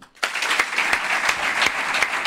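A crowd breaks into applause for Raúl García, who has been moved to emotion, after a brief quiet moment: a dense, steady patter of many hands clapping with a few sharper claps standing out, sustained at a fairly loud level.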